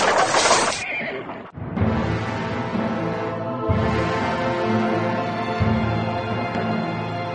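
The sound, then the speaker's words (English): A loud burst of noise and a sharp crash as a heavy wagon smashes into a great rock buried in snow, loses its front wheels and turns over on its side, giving way to a dense, rumbling clatter, with horses whinnying over the tumult as they tear loose and bolt; it continues loudly. “The wagon smashed into a great rock, buried in the snow, lost its front wheels, and turned over on its side, jammed against the rock.”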